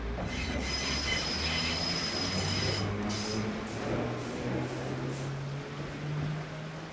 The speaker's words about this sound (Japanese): そんな土曜日、カメラを構えている観光客もいて、その視線の先には緑色の鮮やかな新しい路面電車と、その後ろから現れた古めかしい赤茶色の路面電車。